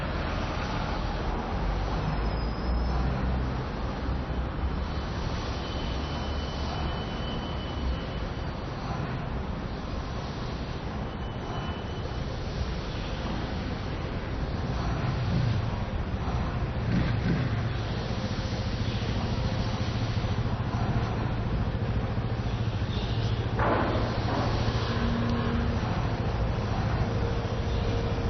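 Steady roar of street traffic with a constant low rumble, cars driving across in front and moving past without a break, and an engine's deeper hum rising toward the end. No voices.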